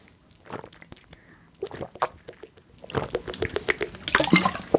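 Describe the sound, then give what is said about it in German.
A thirsty person takes a sip of a drink as a toast: quiet wet slurps and gulping clicks, with a few faint breathy sounds building into a burst of swallowing toward the end. “wir trinken alle mal einen Schluck”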